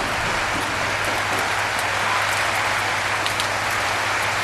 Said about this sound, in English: I can hear the rain in the front. Sounds like a shower.